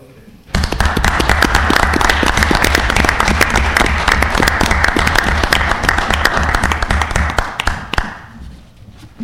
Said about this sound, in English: And we gave you a round of applause, too.